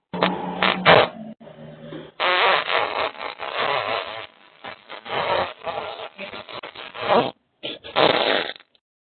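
loud fart sound effect

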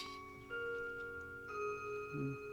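clock chiming the hour

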